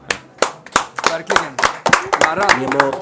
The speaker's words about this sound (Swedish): Alltså det är grymt. Alltså. Det är en applåd för den.